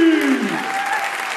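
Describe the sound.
Steady audience applause for a contestant coming up onto the stage, a dense wash of clapping at a fairly loud, even level, with a voice briefly calling out over it at the start.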